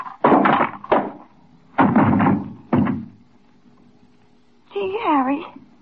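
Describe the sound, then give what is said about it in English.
A man is struck on the head with a paperweight and knocked out: three dull thuds in quick succession, then a short strained vocal cry. “What'd you hit him with? Just a paperweight.”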